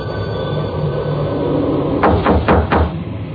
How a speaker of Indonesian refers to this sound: Aku pikir itu hanya bercandaan temanku saja, tapi semuanya kulihat tidak ada yang mengetuk kayu atau apapun. Dan suara ketukan itu semakin jelas terdengar.